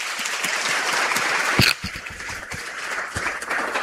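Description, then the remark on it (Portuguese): A crowd of people over 60 claps steadily for themselves, a dense wash of many hands with scattered sharper slaps, holding an even loudness throughout with no voices on top. “E agora, meus colegas idosos, depois dos 60, palmas para nós.”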